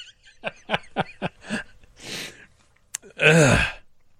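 A loud, hard sneeze bursts out at the end, preceded by a string of short, catching breaths and a sharp inhale as it builds up; the sneeze is so hard it pulls a headphone jack out. No one speaks.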